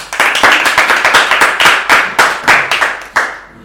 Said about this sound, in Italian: Applausi.